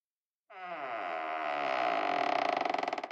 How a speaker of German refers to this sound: Da knarrt die Tür von dem alten Schrank.